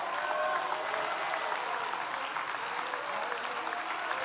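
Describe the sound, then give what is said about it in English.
A large crowd applauds steadily and enthusiastically, a dense wash of clapping that sustains throughout at a fairly loud, even level, with faint cheering voices mixed in; a church audience applauding in praise of God. “I believe He deserves a rousing praise, a thunderous praise of applause.”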